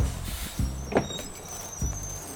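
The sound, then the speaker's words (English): A tour bus engine rumbles low as the vehicle slows and pulls over at a red light district, with a few dull thumps and a faint high brake squeal as it comes to a stop. “Yo, driver, is that the red light district there? Yeah, it sure is. Stop the bus, man!”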